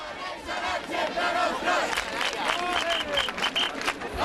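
A large crowd chants and shouts together in the streets of Catalonia, a dense roar of many voices with rising calls and whistles cutting through, loud and sustained throughout.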